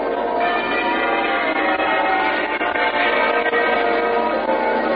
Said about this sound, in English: Peal of muffled bells rings out over the rooftops.